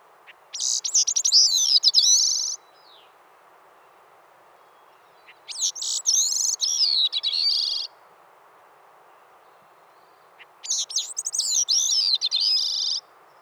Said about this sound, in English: The song of the Bicknell's thrush may be confused with that of the veery. The veery's song is a resonating de-veer, veer, veer, veer, descending slightly in pitch. Compare that to a Bicknell's thrush song, which often has a rising third phrase.